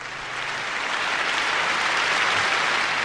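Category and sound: crowd, crowd clapping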